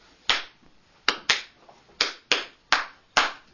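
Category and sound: human body sound, hands clapping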